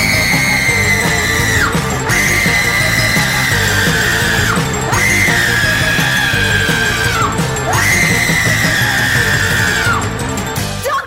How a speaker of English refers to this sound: Those were the greatest screams. They were really impassioned screams.